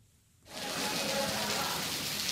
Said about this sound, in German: Zu Beginn der Unterrichtsstunde Glück an dieser Gesamtschule in Delhi ist nur das Plätschern des Monsunregens vor den Fenstern zu hören und ein wenig Murmeln aus anderen Klassenzimmern.